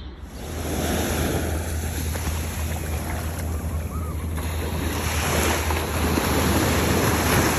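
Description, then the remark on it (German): Shallow surf washes and sloshes steadily around the feet of a person wading and walking along in the water, a continuous churning of water with a low wind rumble underneath and no voices. “Ach, das ist so herrlich, die Füße im Wasser zu baden und hier lang zu laufen.”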